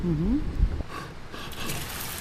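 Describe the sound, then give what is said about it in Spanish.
Water of a stream flows steadily with a soft, continuous rushing hiss, at a spot where a recipe is being cooked beside the stream, with a brief low tonal sound and a few knocks near the start. “Pues entiendo que han hecho receta cerca de un arroyo, ¿no? Sí. El río”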